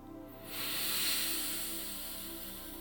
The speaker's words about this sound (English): One last deep, deep in breath.